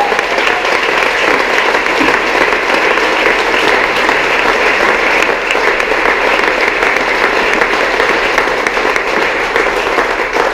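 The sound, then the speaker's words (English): Sustained audience applause for the ladies, a dense, steady wash of many hands clapping at an even loudness throughout, with no voices standing out. “Okay, ladies and gentlemen, a round of applause for our ladies.”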